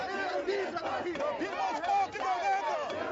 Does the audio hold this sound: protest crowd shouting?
yes